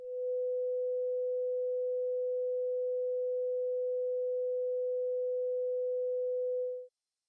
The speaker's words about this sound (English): With your headphones now in place and the loudspeakers turned off, a tone of 500 Hz will now be played only in your left earphone. Another tone close to 500 Hz will now be introduced in your right earphone.